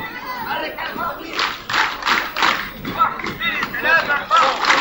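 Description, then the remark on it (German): A group of schoolchildren claps together in a steady, even rhythm during a PE lesson of arm circles and clapping in rows at a primary school in the Nusayrat refugee camp, Gaza. The crisp claps land in unison, with young voices chattering and calling out throughout. “Armkreisen und Klatschen in Reih und Glied, das ist der Sportunterricht hier.”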